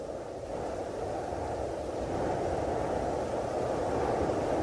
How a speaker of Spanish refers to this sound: Bueno, Jesús, mientras escuchamos el viento, te pregunto, ¿por qué empezar por un mirador, un punto en las alturas?